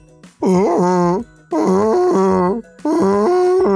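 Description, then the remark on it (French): A person imitates a beaver with three drawn-out, groaning vocal calls, each wavering in pitch and separated by short pauses. The calls are loud and carry strong harmonics. “Cet animal mystérieux, c'est le castor.”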